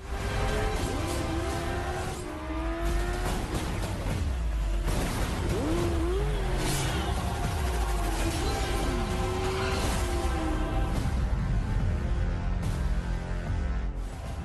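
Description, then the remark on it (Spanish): A loud motorcycle engine revs up and down repeatedly, its pitch rising and falling in surges over a dense, continuous roar, with whooshing noise throughout. “Así te vi el otro día. ¿Cómo hay efecto? En tu moto.”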